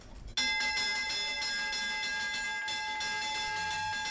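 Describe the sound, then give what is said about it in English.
The opening bell at the Euronext Stock Exchange in Paris rings continuously after a brief pause, a loud electric bell with steady metallic clanging and a bright, sustained tone that fills the space, with no voices over it. “headed to the Euronext Stock Exchange in Paris, where he caught up with the paper's management team at the opening bell.”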